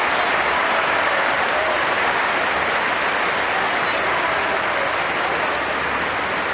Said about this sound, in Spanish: Escucha la ovación ahora mismo a Carolina. Las gracias. Pide perdón. A toda la gente que le está aplaudiendo.